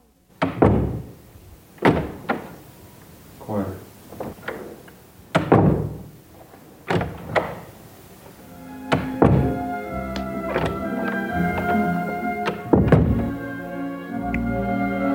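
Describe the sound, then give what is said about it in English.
A series of heavy door slams from doors in director Francis Ford Coppola's house, recorded by Walter Murch for The Godfather: about a dozen irregularly spaced, loud thuds, with a sustained ringing, humming tone rising underneath during the second half. “when Michael Corleone closes the door on his wife to signify he's now working for the family, Murch recorded all the doors in director Francis Ford Coppola's house, listening for the door slam that would have the sound of betrayal.”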